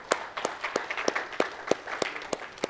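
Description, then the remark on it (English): A crowd at a church service claps hands together to glorify God and thank a singer, in a steady, even rhythm, sharp unified claps about three per second over a softer wash of scattered clapping, with no voices. “Why don't we clap our hands real quick just for to glorify God”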